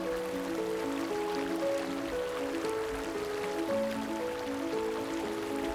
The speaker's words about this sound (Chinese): 小溪也为那柔软的地方带来了洁净。